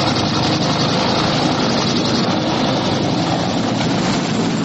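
A loud, steady helicopter engine drones continuously with a dense, roaring whine and rumble, unbroken for the whole stretch, with no voices; helicopters landing on the roof of the U.S. Embassy in Vietnam.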